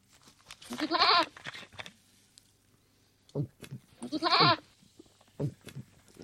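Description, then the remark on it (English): Two loud, wavering goat bleats with a pause between them, each a nasal quavering cry, with faint shorter sounds between and after. Clear, no talking. “The goat? Yes, the goat.”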